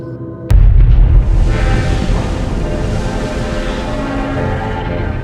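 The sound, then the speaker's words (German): A sudden, heavy explosion at an ammunition depot near Blausee-Mitholz, at night in December 1947, booms out after a brief quiet moment, then gives way to a long, dense rumble that keeps roaring steadily to the end. “Nach der ersten Explosion im Munitionslager bei Blausee-Mitholz in der Freitagnacht flüchteten die Bewohner mit ihrer Habe und ihrem Vieh.”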